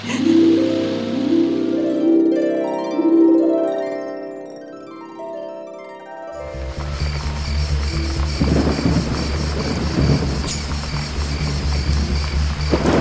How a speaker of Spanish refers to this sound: no debíamos viajar ahora. Mucho está lloviendo